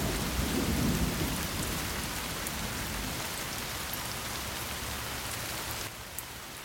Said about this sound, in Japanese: しかも土砂降り。空はどんより。大粒の雨がガラス窓を痛いくらい叩いています。遠くで雷鳴が鳴ったような気がしました。